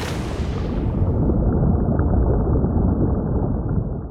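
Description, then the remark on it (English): Muffled, continuous underwater ocean rumble with a deep churning wash; a brighter, splashier edge at the start quickly dulls as the sound drops below the surface, steady and fairly loud throughout. “The sound of the ocean, both on the surface and below.”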